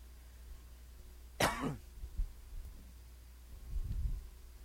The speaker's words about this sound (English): You don't want me coughing through the rest of the sermon, so there we go.